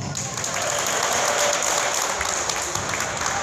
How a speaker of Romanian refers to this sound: Campionatul de basket din Parcul Babeș a strâns numeroși participanți. Unii au jucat pe teren, alții au stat doar ca spectatori, însă fiecare gol a fost marcat de public cu aplauze.